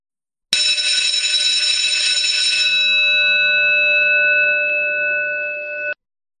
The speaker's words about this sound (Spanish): ¡Ding dong!